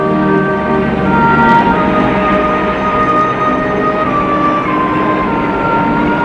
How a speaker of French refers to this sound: Et puis aussi, il y a le bruit de la ville.